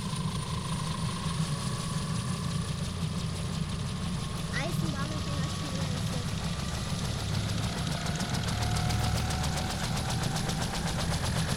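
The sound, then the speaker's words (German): Someone imitates a train picking up speed with their voice, a continuous rumbling chug that stays loud and steady, its pulsing growing quicker toward the end. “Eisenbahn. Eisenbahn wird immer schneller.”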